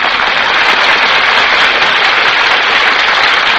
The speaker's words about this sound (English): That applause, ladies and gentlemen, is for our stars, who have just walked from the wings onto the stage